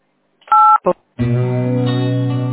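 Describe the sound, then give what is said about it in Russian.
A telephone keypad in an automated phone menu sends a loud dual-tone DTMF beep, then a second very short tone, followed by a steady buzzy electronic sound that could be an automated voice starting. “Если вы хотите заказать обратный звонок оператора, наберите 8.”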